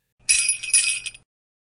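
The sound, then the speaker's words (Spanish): A bright, shimmering jingle of sleigh bells shaken in a quick burst of about a second, with a few rhythmic pulses, loud and alone with no voices. “Por favor, di el nombre del niño o la niña después de escuchar las campanas del trineo.”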